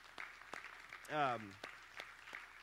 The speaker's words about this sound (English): Set up every single week for 13 to 15 years. So we all just, like, take a second, like, help me give a round of applause to people who do that on a weekly basis.